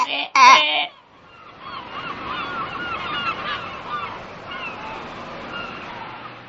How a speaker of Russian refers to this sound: Поговорили утки, взмахнули крыльями и полетели темной ночью во двор, где был закопан Яхимка.